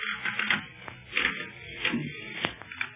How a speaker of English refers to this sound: Golly, this bed's creaking's almost as loud as Barney's snoring.